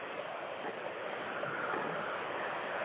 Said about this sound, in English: Oh, my God. That water spewing up billions of gallons. Where is it going? Into the mountain.